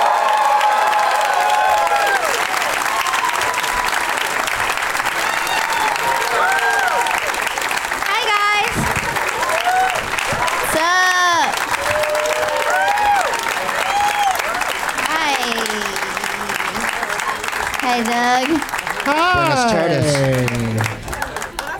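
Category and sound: crowd, audience applause and cheering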